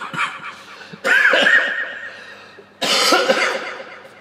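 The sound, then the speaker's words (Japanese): Harsh, raspy coughing from someone with a sore throat, in two loud bursts, each breaking into several rough, strained hacks that trail off, with a brief quieter stretch between them; no speech. “はい、いつも入れる稲妻音じゃないですよ今の、 うん、 僕の席です。 ああ、 ごめんなさい、ちょっともう最近喉が痛くて。”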